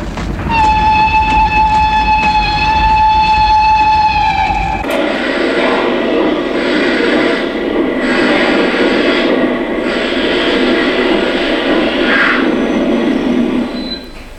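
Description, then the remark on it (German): A locomotive on a train crossing an open plain sounds one long, loud, shrill whistle blast warning of danger, which cuts off abruptly into the steady heavy rumble and screech of the train rolling and braking to a stop on the rails. “Eben hatten wir ein herrliches Tal durchquert und fuhren hinaus auf die freie, offene Ebene, als die Maschine jene gellenden Pfiffe ausstieß, die eine drohende Gefahr anzeigen.”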